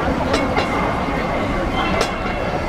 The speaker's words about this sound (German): Die alten doppelstöckigen Trams fahren noch immer auf Hongkong Island hin und her.